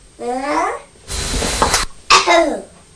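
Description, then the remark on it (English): A young child's voice makes a drawn-out, rasping cough sound, imitating the child's father coughing, between two short high-pitched vocal noises, fairly loud with no words. “What are you doing? Imitating Daddy coughing?”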